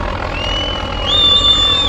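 A Hungarian police helicopter overhead at the Horgoš border crossing on the highway between Serbia and Hungary: a steady low rotor throb with a high turbine whine that rises in pitch and grows a little louder partway through, with no voices.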